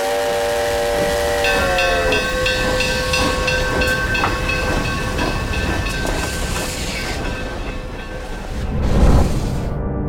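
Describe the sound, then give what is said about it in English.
A steam locomotive leaves the depot as the engineer opens the throttle, letting out a long, loud multi-tone whistle over steady hissing steam and rumbling, with chuffing and clanking as the train pulls away; no voices. “He and Hayes no sooner got settled than the engineer opened the throttle.”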